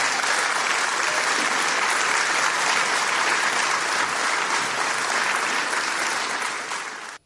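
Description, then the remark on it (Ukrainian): Loud, sustained applause from a large audience at a business forum in Białystok where Donald Tusk spoke, a dense wash of many hands clapping at once that holds steady for several seconds before cutting off abruptly. “а як ви думаєте, чому люди так пляскаються? Адкуль такі аплодисменти масові?”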